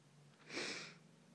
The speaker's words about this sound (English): I've got a bit of a cold, by the way, hence the sniffing. Not very attractive, I know.